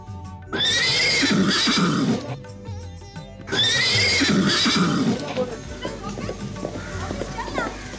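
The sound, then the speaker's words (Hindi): A horse neighs loudly twice, each whinny a long quavering call, followed by softer background sounds that may include voices. “आपका ये घोड़ा बहुत सुंदर है।”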